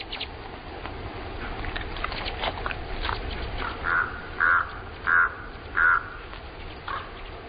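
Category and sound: bird, ravens calling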